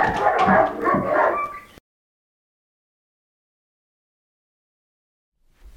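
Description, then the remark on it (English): A dog barks and whimpers in a loud, excited burst lasting under two seconds, then cuts off abruptly into silence. “I had to go take care of some dog issues.”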